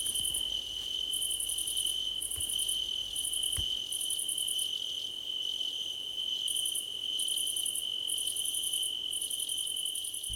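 Crickets chirp steadily in high, pulsing bursts over a constant shrill trill, with no voices, like a warm night outdoors; a couple of faint thuds sound in the background.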